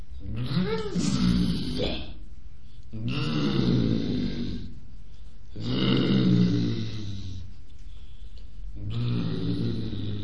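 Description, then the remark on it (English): A human voice channeling elephants, imitating elephant calls: four long, loud, rumbling groans with a rising trumpet-like wail at the start, each separated by brief pauses, alone. “It's the first time I've ever channeled the elephants.”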